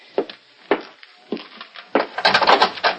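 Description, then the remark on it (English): In the radio drama Feathers on Suspense, four heavy thuds as a man tries to bust down a wooden door, about half a second apart, then a loud burst of cracking and splintering wood as it gives way. No one speaks. “I gotta bust down this lousy door.”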